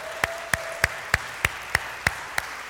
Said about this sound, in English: Now, we know that 99% of that applause goes to her.